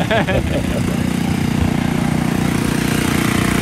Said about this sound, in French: Voilà, ça c'est une machine à faire du jus de canne.